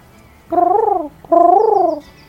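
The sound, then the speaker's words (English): A bird calls twice, two loud, hooting cuckoo-like notes, each with a fast, pulsing warble, separated by a brief pause against a quiet background. “Yeah, you're seeing like cuckoo, cuckoo. Like, what is that? Like, what noise is that?”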